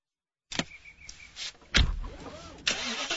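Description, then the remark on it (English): The engine of a certified pre-owned BMW car being test driven cranks and fires up with a sudden loud burst, then settles into a running rumble that surges again near the end, preceded by a brief mechanical whir. No one speaks. “Today, I'm test driving a certified pre-owned BMW along with an array of other cars.”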